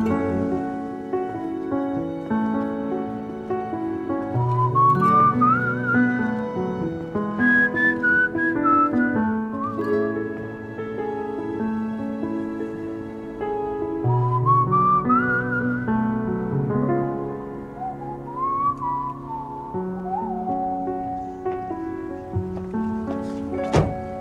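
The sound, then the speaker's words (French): A man whistles a flowing, wistful melody in a song over soft instrumental accompaniment, singing as well as whistling, the clear tune gliding up and down in long phrases for the whole stretch, moderately loud. “qui chante et siffle à la fois?”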